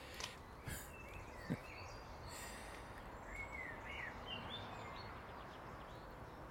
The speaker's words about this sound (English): Is there anything nicer than blackbird's song? I know someone said the nightingale's got nicer. We don't get nightingales, so. Is there anything nicer than a blackbird's call at last thing at night, first thing in the morning?